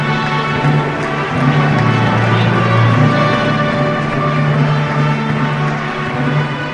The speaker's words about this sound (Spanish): Así sonaban esos aplausos en el claustro de la iglesia del monasterio de San Juan.